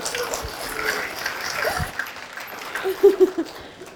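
A group gives a short round of applause for a member who has just taught the group, a soft, dense patter of clapping that fades after a couple of seconds, followed by a few brief voiced sounds like light laughter.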